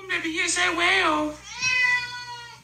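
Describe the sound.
A cat trained to 'talk' lets out two drawn-out meows, the first wavering and warbling, the second a steadier, sustained cry, sounding almost like speech.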